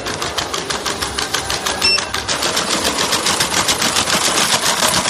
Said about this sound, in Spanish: Así suena al caminar este pequeño robot de cuatro patas. Tefi debe su nombre a las siglas del Instituto de Tecnologías Físicas y de la Información, un centro del CSIC, donde ha sido creado.